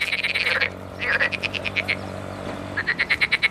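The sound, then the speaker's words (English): Frogs croaking in the marshes near Basra in southern Iraq, rapid pulsed calls repeating in three bursts over a steady low background hum, loud. “Frogs in the marshes near Basra.”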